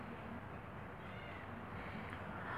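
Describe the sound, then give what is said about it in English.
A cat meows softly in the background, a faint drawn-out cry over a low steady room hum, with no one talking. “There's the cat.”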